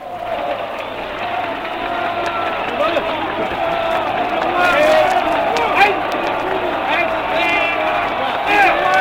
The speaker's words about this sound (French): Les paroles du roi Léopold III, vous l'avez entendu mes chers auditeurs, ont fait vibrer profondément la foule. Paris a acclamé le roi Léopold III.